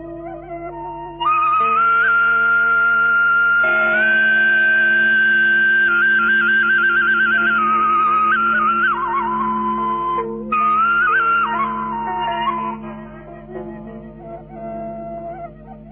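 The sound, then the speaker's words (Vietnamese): Slow, gentle instrumental music of đàn tranh zither played by musician Thạch Cầm, đàn bầu monochord by artist Thúy Hạnh and bamboo flute by artist Bảo Cường, a high flute melody gliding over sustained plucked tones, fairly loud and steady, fading softly at the end with no voices. “Và những vần thi kệ này được trình bày với các nghệ sĩ Hồng Vân, Bảo Cường và Đoàn Yên Linh, cùng tiếng đàn tranh của nhạc sĩ Thạch Cầm, tiếng đàn bầu của nghệ sĩ Thúy Hạnh và tiếng sáo trúc của nghệ sĩ Bảo Cường.”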